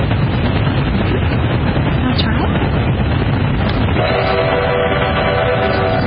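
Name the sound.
train whistle blowing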